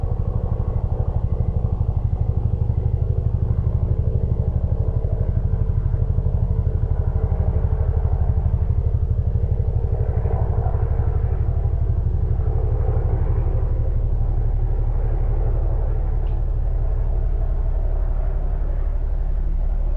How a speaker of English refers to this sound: Just let there be the sound of the helicopter. And the breath is right here. The sound of the helicopter doesn't destroy the breath.